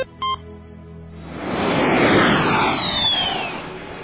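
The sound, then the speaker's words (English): A short electronic beep, then a private jet roars up loudly, its broad engine rush swelling and sweeping past with a rising whine before fading slightly. “It must be nice to have your own jet.”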